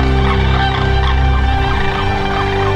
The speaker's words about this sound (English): Sandhill cranes are amazing birds, but they are an animal with a comeback story. The Sandhill Crane Festival is a yearly celebration to celebrate the return of that bird in these great numbers.